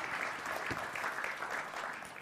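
An audience claps steadily, producing a dense, continuous wash of many hands clapping at once, loud and sustained throughout with no voices standing out.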